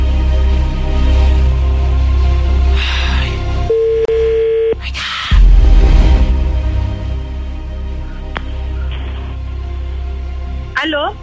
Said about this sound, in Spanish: Yo creo que está ocupado el teléfono nomás.